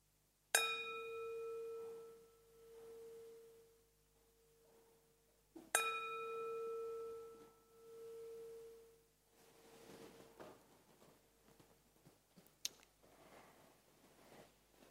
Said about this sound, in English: We're coming to the end of the meditation. I will ring the bell 3 times so you can gently come out of your meditation as you listen to the bell.